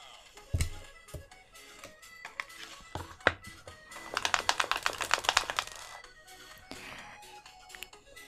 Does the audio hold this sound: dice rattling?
yes